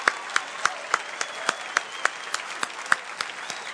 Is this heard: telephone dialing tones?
no